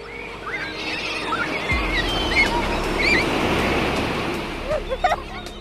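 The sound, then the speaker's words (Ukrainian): Sea water starts splashing against rocks after a brief quiet start, a steady, fairly loud wash of churning surf, with faint high chirping calls over it. “Вода гучно хлюпала і плюскотіла біля країв каміння”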